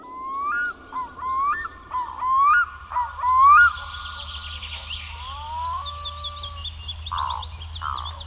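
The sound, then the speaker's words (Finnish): Eurasian jays call repeatedly in a forest on a frosty evening: a string of rising, squawky cries, then harsher screeches toward the end, over a low steady rumble and a busy chatter of higher calls. “Pakkanen kiristyy, närhet huutavat metsässä ilta myöhälle.”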